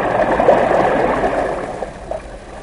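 Steady rushing of dirty yellow flood water creeping out of a riverbed and across the land in endless rain, a continuous broad wash with faint gurgles, moderately loud, without any voices.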